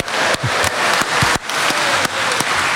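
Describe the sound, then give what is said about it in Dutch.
A live audience in the Plaskerk in Raalte, at an event for 900 years of Raalte, claps steadily, producing dense, bright applause that stays loud throughout with slight dips, and no voices stand out. “En we hebben publiek erbij.”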